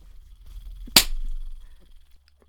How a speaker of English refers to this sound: See? Disobedient sissies get slapped.